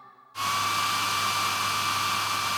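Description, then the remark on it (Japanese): A hair dryer, used to dry hair, switches on abruptly after a brief quiet moment, then blows with a steady, loud whooshing roar and a faint motor hum underneath, unbroken. “よし、ドライヤーオッケー。”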